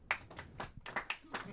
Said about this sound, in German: Hat Tim Wiese eine Zukunft im Wrestling? Euer Applaus!